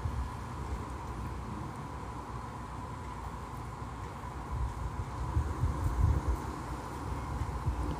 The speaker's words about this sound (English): I am standing outside. It is an Arizona day. Droplets. The sky is gray, blue. Clouds. Wind is blowing. Can you hear it?